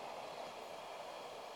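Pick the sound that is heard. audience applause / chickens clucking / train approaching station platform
train approaching station platform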